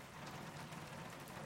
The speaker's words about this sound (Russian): День был нехороший, шел дождь и уныло стучал в мои стекла.